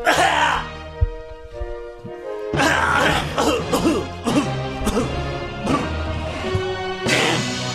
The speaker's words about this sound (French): T'as un chat dans la gorge, racle la gorge avant de continuer.